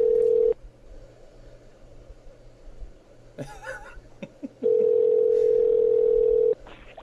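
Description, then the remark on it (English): A steady electronic Skype call ringing tone sounds twice, a short burst and then a longer one of about two seconds, with brief muffled noises and a quiet laugh in the gap between. “Oh, it's ringing.”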